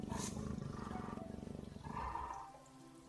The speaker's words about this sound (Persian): اینجا کنار کمپا یه جگوار نر درشته.